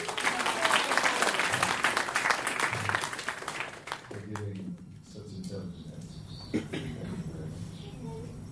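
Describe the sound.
Dense, crackling applause from an audience for about four seconds, then it fades as a man begins talking over the last scattered claps.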